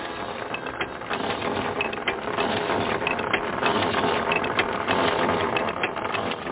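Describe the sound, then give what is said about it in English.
A rotary well drill run by a crew in Cotoca, being sent deeper into the ground, runs steadily, a dense mechanical clatter and grinding with a ratcheting, gear-like texture over a continuous low rumble, fairly loud throughout with no voices. “While Ben and his crew send the rotary drill deeper into the ground”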